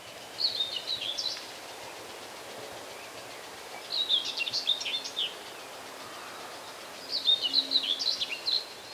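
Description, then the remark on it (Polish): A common whitethroat, a small bird with rusty upperparts and a pale underside, delivers three short, scratchy song phrases, each about a second long and spaced a few seconds apart, fairly close and clear over a faint outdoor hiss with no talking. “Tutaj niedaleko zgrzytliwie cierniówka się odzywa.”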